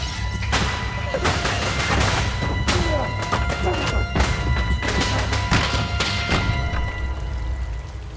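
A window pane is kicked again and again, each blow a loud, dull thud with a rattling edge, landing in an uneven rhythm over a steady low hum.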